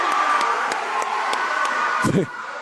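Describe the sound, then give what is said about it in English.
A loud basketball crowd jeers the officiating, a steady roar of displeased voices, punctuated by sharp regular knocks and a sudden thump near the end. “I'll tell you, the crowd's not happy with the officiating.”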